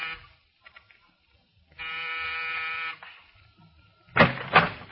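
An apartment door buzzer in the corridor of an apartment building in New York's East 70s sounds one steady, harsh electric buzz lasting just over a second, rich in overtones, followed moments later by two short noisy clunks. No one speaks.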